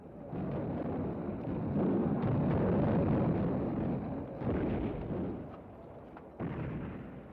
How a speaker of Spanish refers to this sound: Van a empezar el ataque con la artillería.